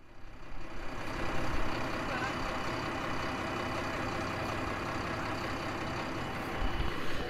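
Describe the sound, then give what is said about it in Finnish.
A tractor with a trailer and a bucket runs steadily while someone at the wheel tries turning it, a continuous low rumble with a rough, even texture that holds at the same loudness for several seconds without pausing. “Heti rupes, sehän olet oikea, aivan niin kuin olisi ikäs ollut traktorin ratissa.”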